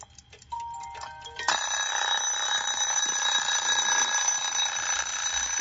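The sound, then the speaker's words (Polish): A wound-up Soviet Slava mechanical alarm clock, made in the USSR, goes off: after a second or so of light clicks and faint tones, a loud, continuous, rattling metallic bell ring starts and holds steady to the end, with no talking. “A dzisiaj to mamy łódziczki, które, no, teraz już bardziej elektroniczne, ale ten to już dzwoni tak, jak dźwięk jest znany dzisiaj.”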